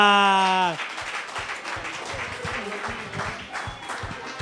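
A brief sustained, steady tone cuts off and dense audience applause follows: many hands clapping in a busy, continuous patter at fairly even loudness for nearly four seconds.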